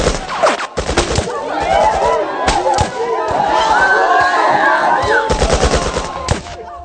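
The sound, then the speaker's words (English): Rapid bursts of loud gunshots crack out in several clusters, some firing in quick automatic strings, while agitated voices shout and cry out beneath and between the volleys. The shooting is during an attack on a church. “Started hearing gunshots.”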